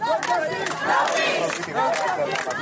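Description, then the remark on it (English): A crowd of hundreds of protesters in Athens, Greece, chants together in loud, steady unison, many voices blending into a rhythmic, shouted refrain that rises and falls without pause, chanting the same words as protesters in the U.S. “And in Athens, hundreds gathered, chanting the same words as protesters in the U.S.”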